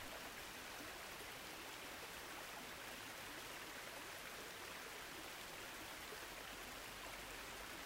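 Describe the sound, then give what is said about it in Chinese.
A small waterfall trickles steadily down among tall green hills by a river, heard from a boat approaching the shore, a soft continuous wash of falling water, fairly faint and unchanging throughout, with no voices. “船靠近岸边，穿过高耸的绿色山丘时，你发现一道小瀑布在细细地往下流。”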